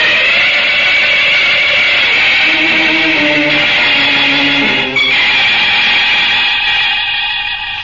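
A loud, steady roar of a rocket launching, a dense hissing rush with low tones sliding upward partway through, holding strong for several seconds before easing slightly at the end.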